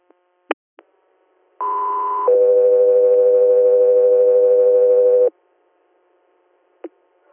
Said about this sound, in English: 303 Air, standby for tones.